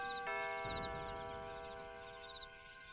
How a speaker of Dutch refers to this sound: Oh nee, wat gaat Adriaan nu doen? Oh, hij drukt op de bel!